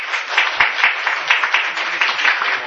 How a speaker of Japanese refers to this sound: 拍手でお迎えください。